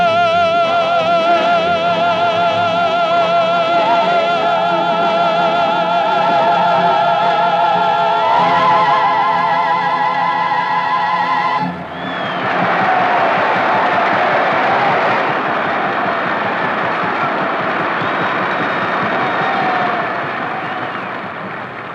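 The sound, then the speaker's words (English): A sustained final chord from singers and orchestra rings out, then breaks into loud, vigorous applause from an audience, a dense steady clatter of clapping that fades slightly at the end. “They liked it. They applauded vigorously.”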